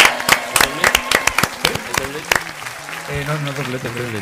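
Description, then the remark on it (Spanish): A small audience breaks into brisk, scattered clapping at the presentation of the Premio Luis Lopera award, lasting a couple of seconds and then thinning out as voices start talking and cheering over the last few claps. “¡Un aplauso!”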